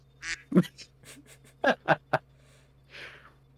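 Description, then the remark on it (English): A series of nasal duck quacks from a sound effect, several sharp calls in quick succession with a couple of softer ones between, moderately loud, ending with a breathy fading call. “See, on the river, they should have duck sound effects.”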